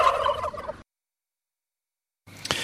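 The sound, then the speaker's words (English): A burst of turkeys gobbling together on a turkey farm just outside Tamworth, a busy chorus that stops abruptly, then after a silent gap a second gobbling burst starts up, moderately loud. “So there'll be a hatch coming off Christmas Eve, but look, there'll probably be 10,000 turkeys walking around for next Christmas on the farm Christmas Day.”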